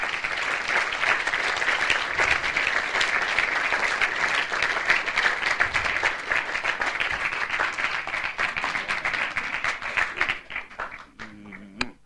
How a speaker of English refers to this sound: Come, Mama. Come. Give First Lady a hand clap as she comes.